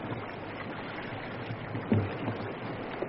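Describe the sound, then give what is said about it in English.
Steady rushing water of a river riptide surrounds a canoe being paddled through it, with a low churning roar and a brief splash or knock near the middle as a paddle digs in; no one speaks. “There's a riptide running here. It'll take us all we know to get this canoe through it.”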